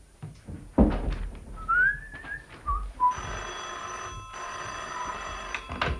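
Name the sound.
telephone ringing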